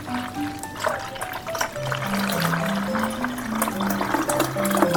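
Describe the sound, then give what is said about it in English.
A steady stream of gasoline glugs and splashes as it is poured from a container into a car's fuel tank, its pitch stepping upward as it fills, continuous for the full few seconds with no voices. “I poured the gasoline down the car's tank.”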